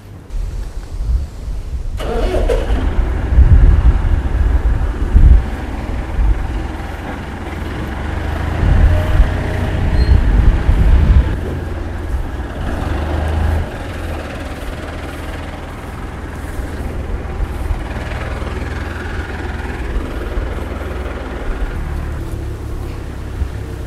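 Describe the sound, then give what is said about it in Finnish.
A tractor engine turns over and starts after a moment of quiet, then settles into a loud, steady diesel rumble with deep low-end throbbing that continues throughout; the tractor is heading to apple orchards. “tulee traktorilla perässä ja menen tästä edeltä jo tonne omena viljelmille.”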